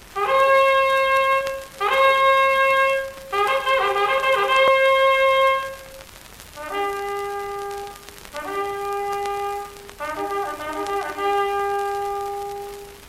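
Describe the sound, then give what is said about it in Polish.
A trumpet plays a signal call: two loud, bright fanfare phrases of quick repeated notes and short held tones, separated by a brief pause, with no voices. “Trąbka, sygnał.”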